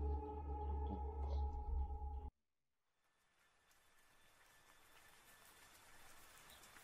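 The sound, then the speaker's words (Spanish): A low, humming drone stops abruptly, then steady rain falling at night fades in, a soft, even hiss of falling water that slowly grows louder. “La lluvia corría en aquella noche por las calles de Guadalajara, un día 2 de noviembre, día de todos los santos,”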